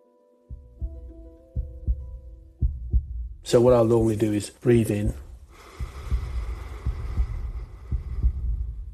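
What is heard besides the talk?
heartbeat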